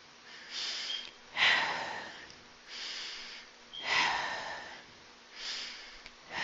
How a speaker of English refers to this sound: Those are deep breaths, right? This is part of meditation as well. So focus on breathing out as slowly as possible until the lungs are completely empty.